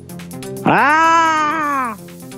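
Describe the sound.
A person imitates a bear growl: one loud, sustained voiced cry lasting just over a second, starting abruptly and sounding more like a strained, nasal yowl than a deep rumble.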